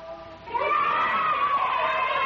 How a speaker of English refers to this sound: How you hear the children yell when they hear the dinner bell.